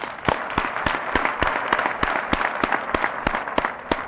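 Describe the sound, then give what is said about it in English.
An audience, including AA members, applauds steadily for several seconds as those with an alcoholic relative or friend are asked to clap, a dense wash of many hands clapping with sharper individual claps popping out on top; fairly loud, with no voices. “Everybody in here that has a relative or a friend who is an alcoholic, please applaud.”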